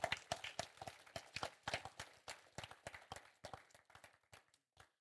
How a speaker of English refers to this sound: I think it's a good place to clap for them.